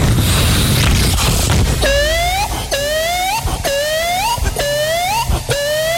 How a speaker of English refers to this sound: All was well. All was well. When suddenly, an explosion!